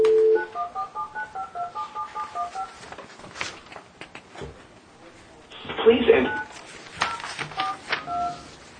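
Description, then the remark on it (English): A quick run of about a dozen beeping keypad tones as a phone number is dialed, clear, followed by a burst of noise and indistinct voices talking. “Let's try that upper number one more time.”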